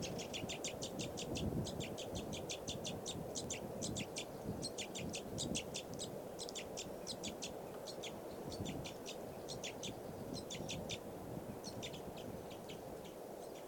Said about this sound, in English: That bird just flew over there. Different one.